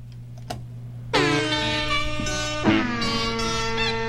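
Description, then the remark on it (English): Loud, brassy bicycle horns and air horns stack into sustained harmonic tones over a steady low hum, a second honk entering partway through, squeezed in time to play a piece of music. “It's just music and bicycle horns and air horns.”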